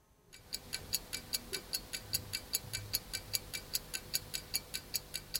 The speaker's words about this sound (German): Das Ticken der Uhr ist eine Ikone der Vergänglichkeit.